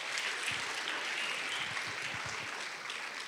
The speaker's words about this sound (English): Give yourself a round of applause for that.